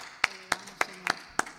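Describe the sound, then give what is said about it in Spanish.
Hands clap in a slow, fairly steady rhythm, five or six sharp claps in quick succession, moderately loud, with no voices over them, as applause for the Lord at a church service. “¿Por qué le damos un aplauso al Señor?”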